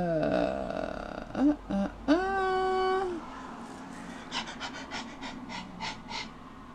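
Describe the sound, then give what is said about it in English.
A dog gives a few drawn-out whiny tones, then pants in a quick, steady rhythm of about eight soft, breathy huffs. “Settly dog.”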